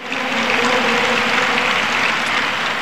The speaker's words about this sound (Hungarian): A zsúfolásig megtelt Szent Péter téren a hívek tapssal fogadták az elhunyt pápa koporsóját. A vatikáni hatóságok szerint több mint 250 ezeren gyűltek össze Ferenc pápa temetésén.